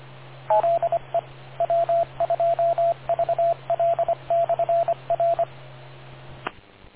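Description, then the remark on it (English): A radio repeater's beep tone: a quick string of short, mid-pitched electronic beeps in an uneven rhythm over a steady channel hum, cut off by a click near the end. No one speaks. “Wait 2 seconds beyond the beep”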